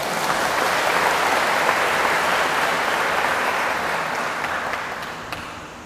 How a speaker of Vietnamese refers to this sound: thì các bạn hãy cho một tràng vỗ tay thật là lớn để cam kết.